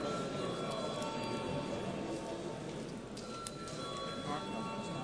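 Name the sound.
parliament session bell ringing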